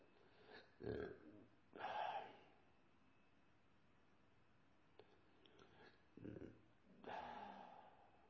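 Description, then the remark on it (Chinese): Four loud burps from a man come at irregular intervals, some short and abrupt, others drawn out and throaty, with quiet pauses between them and no talking. “你看我总打嗝。”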